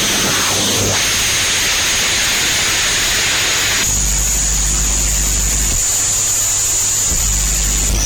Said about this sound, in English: There's another Japanese genre of music out there called Japanoise. I can't believe this is a thing, but apparently there's a bunch of Japanese people out there rocking out to this. Like static.